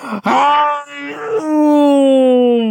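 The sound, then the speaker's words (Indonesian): A human voice imitates the roar of Pak Singa, the lion in a story, roaring like thunder in the forest: one long, loud, drawn-out moaning cry with a brief break near the start, its pitch sliding slowly downward as it fades. “Dan auman Pak Singa menggemuruh, menderu dan menggema, menggelegar bagaikan petir di dalam hutan.”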